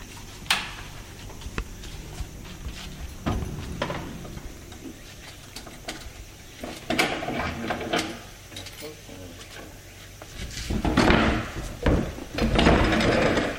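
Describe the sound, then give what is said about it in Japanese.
The heavy wooden door of a history museum at the entrance of a large residence in Japan is hauled open so visitors can go inside, with a series of knocks, scrapes and clunks that grow louder toward the end, while faint voices murmur. “今重い扉を開けてもらって、中に入っていきますと”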